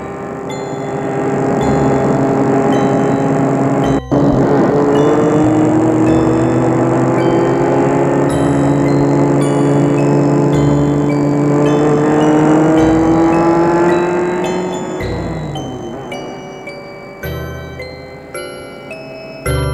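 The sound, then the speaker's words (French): A car speeds along a highway in the dark, its engine a loud, steady drone that slowly climbs in pitch for about fifteen seconds before easing off and fading. No voices. “La voiture file dans le noir. Elle semble être sur une autoroute.”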